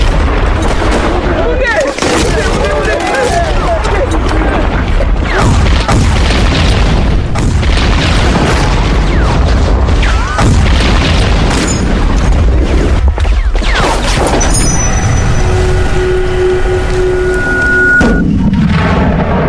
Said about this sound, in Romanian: Ploaie de gloanțe, băieți, fugi!